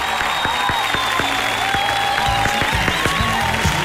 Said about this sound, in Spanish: ¡Aplausos!